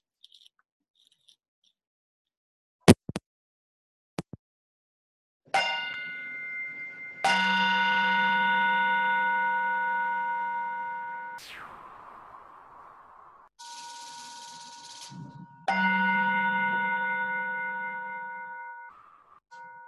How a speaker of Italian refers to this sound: Adesso, se riesco, vi faccio sentire il suono della campana.